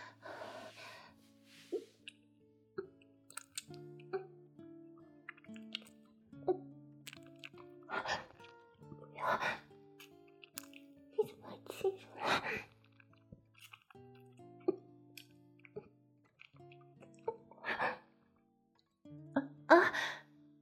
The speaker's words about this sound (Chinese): 你问我什么声音啊？我觉得好热，所以用舌头舔自己的嘴唇。你知道吗？热得我嘴巴有点干，所以就抿嘴咽口水来缓解燥热呀。